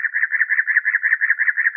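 A cactus wren's song: a steady run of about ten harsh, raspy chugging notes in even rhythm, mid-pitched and fairly loud, with no voices over it. Heard in a scene set in a farm field beside a two-lane rural road in Maine.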